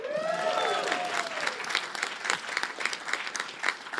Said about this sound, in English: And it's called the Andy Daly Podcast Pilot Project. Yes, hold for applause.